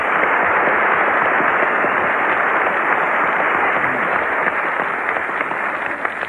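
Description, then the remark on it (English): A crowd claps steadily for a young ex-GI, a dense, even wash of many hands applauding at a constant loud level for several seconds with no voices rising above it. “I think we ought to have a big round of applause”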